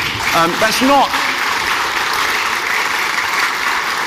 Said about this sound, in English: So at the outset, I think we just give ourselves and one another a big round of applause, because there's so much work that goes in. So let's do that now.